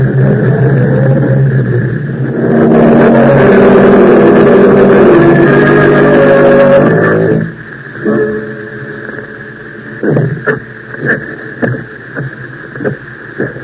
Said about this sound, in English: Drive the car down a few blocks. We'll come back on foot in very quietly.